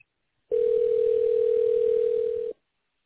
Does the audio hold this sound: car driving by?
no